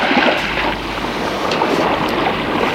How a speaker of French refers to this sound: La mer est houleuse. Il y a de très grosses vagues noires sous un ciel agité, nuageux.